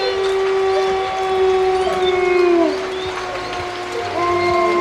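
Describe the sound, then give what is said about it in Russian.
Several wolves howl together at night in the rain by Black Lake, long, overlapping wails that slowly rise and fall in pitch, set against a steady hiss of rain falling on a tent. “В дожде, в непроглядном мраке выли волки.”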